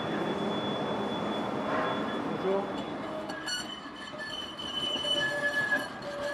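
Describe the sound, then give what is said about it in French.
A metro train rumbles steadily through Boxtal metro station, its wheels letting out thin, high-pitched squeals in the second half, with faint voices murmuring in the background. “Il est dans un coin du métro de la station Boxtal.”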